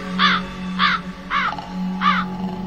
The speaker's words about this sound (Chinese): 随着一声声尖锐的乌鸦叫声，其中有个人坚持不住了